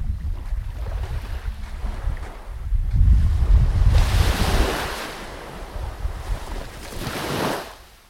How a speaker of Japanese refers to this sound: ちょっとね、今日本当に風が強いので ちょっと聞こえるかな。ちょっと今度水辺の方に近づいてみましょうか。波の音ですね。